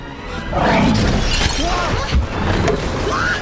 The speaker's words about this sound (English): Windows explode under the pressure.